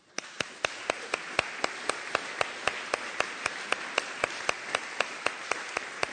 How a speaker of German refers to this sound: Lasst uns wirklich mal Danke sagen mit einem Applaus.